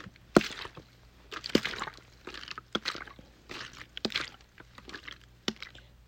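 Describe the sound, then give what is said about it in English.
Water sloshes and splashes in a steady rhythm as a paddle dips and pulls, about five strokes with soft dripping between them, moderately loud, with no voices. “The water is so rhythmic.”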